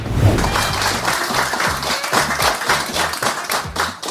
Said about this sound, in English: who's clapping in this? Okay, now, just to point this out, this is a random human being on YouTube.